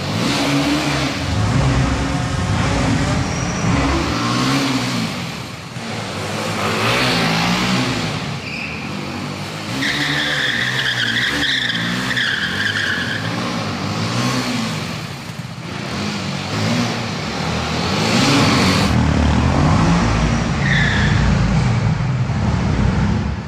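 vehicle, motorcycle engine revving

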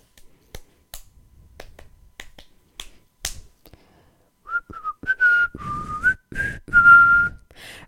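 human body sound, human whistling

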